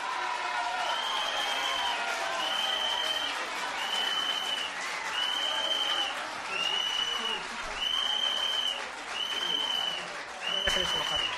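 A shrill whistle is blown by an audience member during a mayor's speech in Ribeira, again and again in steady, evenly spaced blasts, about eight in all, sounding loudly over the broad noise of a clapping, murmuring crowd.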